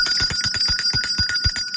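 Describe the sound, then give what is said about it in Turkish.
A bright bell rings rapidly and continuously, a trilling metallic chime with sustained high tones and quick repeated strikes, loud, with no talking; a reminder chime to drink a glass of water, from Arçelik water purification systems. “Zil sesinden sonra hem suyumuzu içelim hem de su içerken elde ettiğimiz faydayı dinleyelim.”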